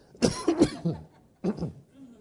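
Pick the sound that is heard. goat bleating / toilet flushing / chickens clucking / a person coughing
a person coughing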